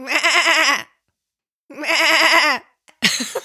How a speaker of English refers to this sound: I absolutely know what animal sound you're playing now. Those are goats. I love goats, and I think they make the funniest sound of all the animals.